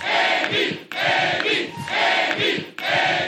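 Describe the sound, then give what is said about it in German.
Supporters at a US presidential primary campaign event cheer loudly in sustained bursts of shouts and whoops, swelling in waves with brief dips between roars. No single voice stands out from the din. “Selbst bei Andrew Young wurde diese Woche gejubelt und das, obwohl es gar nichts zu jubeln gab.”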